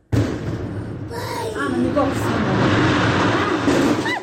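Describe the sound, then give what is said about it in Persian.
A rock blast at a stone quarry by Takobi Nav village in Varzob, Tajikistan, erupts with a sudden loud boom, then rolls into a long, steady roar of rumbling and falling debris for several seconds, with voices faintly audible over the din. “این صدای ترکیش در کانی همشفت دهه تکابی نویه ورزوب است.”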